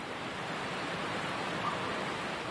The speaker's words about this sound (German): Langsam näherst du dich dem Wasserfall auf der anderen Seite des kleinen Sees. Du spürst, wie der Klang des Wassers in dir ein tiefes Gefühl der Entspannung kreiert.